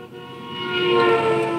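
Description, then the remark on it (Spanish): An enormous truck's deep horn blares in one long, sustained honk on a road, swelling louder as the vehicle rushes up from the left. There are no voices. “Poco le faltó a Avelina para morir atropellada. Aquel enorme camión salió de la izquierda.”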